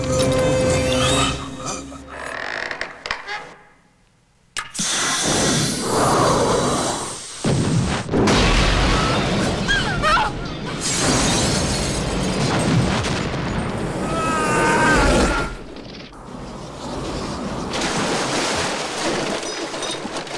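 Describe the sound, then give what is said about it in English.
After a brief hush, a gas canister ignited by a lighter explodes loudly in a lab and roars on, with crashing, crackling debris and what sounds like breaking glass continuing for many seconds. No one speaks. “A bright orange explosion rips apart the lab, sending the blackened body of Peyton flying through the window”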